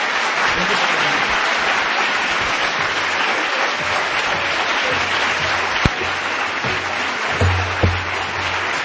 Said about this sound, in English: And then, would you bring your hands together and give her a big round of applause?